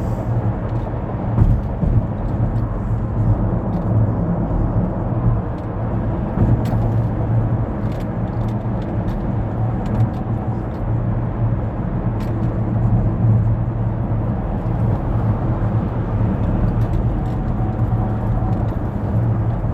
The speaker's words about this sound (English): Ignore that. That's just the engine's been giving me issues. Just fucking little warning lights will pop up randomly.